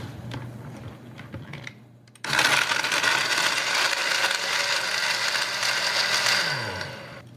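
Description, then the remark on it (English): A blender whipping a drink mixture of meringue powder, powdered sugar and vanilla starts abruptly after a couple of seconds of quiet clinking, then runs loud and steady with a dense whirring roar, its motor pitch dipping slightly before it winds down at the end. “And when I whip this up, the meringue powder is going to give it this wonderful frothy texture.”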